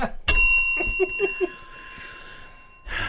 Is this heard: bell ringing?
yes